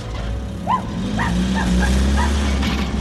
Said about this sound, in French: Ce chien est devenu fou. Regardez-le poursuivre ce camion.